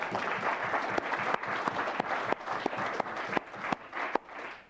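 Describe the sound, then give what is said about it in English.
A sustained round of applause from a group welcoming visiting students and their teacher, dense overlapping claps forming a steady wash of noise with a few sharper individual claps standing out, fairly loud throughout with no talking. “And if they would all, I would appreciate if everybody would welcome them with a good round of applause.”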